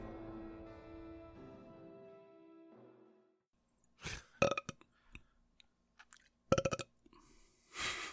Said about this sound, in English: Burp. Yeah. Burp noise. Burp noise.